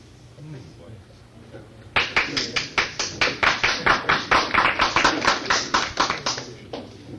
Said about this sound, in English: This side of the room is applauding